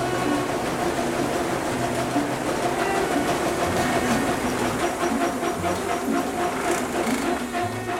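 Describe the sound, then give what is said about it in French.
A wheat brush grain-cleaning machine runs steadily at the Ferme de la Micalier in Lautrec, Tarn, during an open farm day recorded on 25 February 2024: a continuous loud mechanical whir with a droning low hum, a rattling middle and a broad hiss on top, unchanging throughout, with no voices. “Et à la suite de ça, on va le passer à la brosse à blé.”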